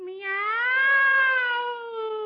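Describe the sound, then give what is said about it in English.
A man's voice imitates a cat with one drawn-out meow, rising in pitch and then sliding slowly down. It is loud and steady, with no other sounds around it. “make a noise like a cat.”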